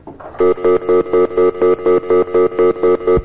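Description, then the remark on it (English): A loud electronic phone-line tone pulses in a fast, steady on-off pattern, about a dozen short beeping bursts in quick succession with no voices. “This is the phone thing that never works. Let's try it.”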